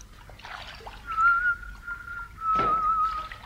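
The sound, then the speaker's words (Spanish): A man alone in a canoe on a river whistles softly in long, steady held notes while slowly paddling, water splashing and sloshing at intervals with the paddle strokes. “Rema mientras silba suavemente.”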